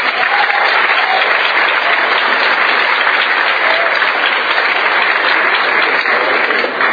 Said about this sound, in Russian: Аллилуйя. Богу аплодисменты.